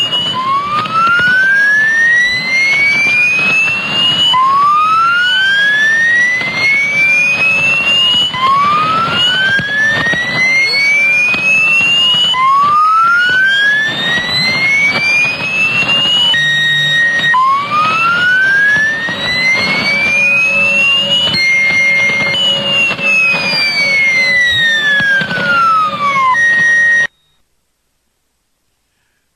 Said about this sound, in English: And if that's a mystery, listen very carefully. Here's the other transmission we've got recorded.